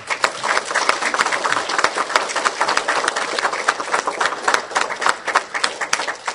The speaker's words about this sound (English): I thank God for them, and I would like to give them an applause.